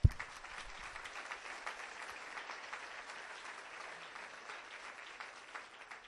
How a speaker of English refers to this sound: We can applaud again.